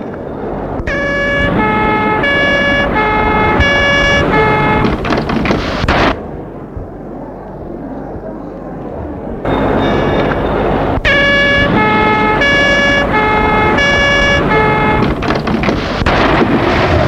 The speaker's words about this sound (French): Les voitures du Vatican. Les cars de police, ambulances, etc.